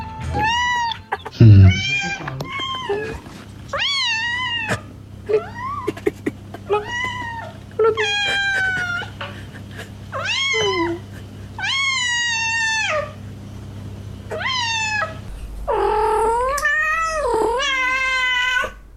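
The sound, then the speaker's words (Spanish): Male and female cats in heat yowl over and over, roughly a dozen long, wavering, drawn-out cries in quick succession, loud, with a steady low hum underneath and no talking. “registro de solamente gatos y gatas en celo. Póngale play.”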